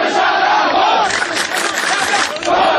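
protest crowd chanting slogans

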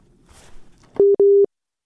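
telephone busy signal

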